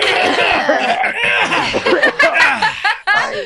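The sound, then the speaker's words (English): Several people cough and clear their throats at once in a dense burst of hacking, mixed with a few snickers and chuckles, lasting a few seconds. “Hold on, let's all clear our throat real quick.”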